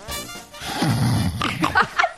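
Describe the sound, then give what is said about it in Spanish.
A person imitates a pig, making a low, rough, snorting grunt followed by a few shorter nasal grunts in quick succession, fairly loud. “Cerdo.”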